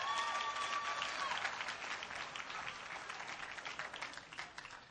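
An audience claps steadily for several seconds for a person who has moved 13 times, a dense patter of many hands that stays fairly even and begins to thin toward the end, with a faint whistle-like tone early on.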